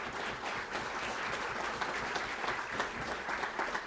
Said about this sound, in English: I know you acknowledged her earlier, but let's give her another round of applause for doing such a great job.